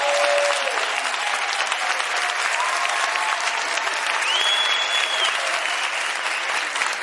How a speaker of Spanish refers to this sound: Un fuerte aplauso